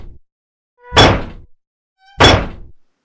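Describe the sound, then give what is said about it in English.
Two separate swooshes, each rising quickly into a heavy, booming impact with a short rumbling tail. About a second of silence separates the two hits. No one speaks. “And same thing is like when you really want to get something to sound big, you want to have the person anticipate it, like a whoosh, you know, like a whoop, here it comes, and then bam, like the swoosh and then the impact.”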